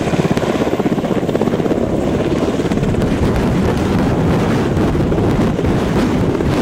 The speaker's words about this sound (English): This is an HH-60, the 41st Expeditionary Rescue Squadron, the Pedros. Here at Kandahar, their mission is saving lives.